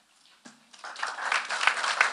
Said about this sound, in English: Wait for applause, hold for applause.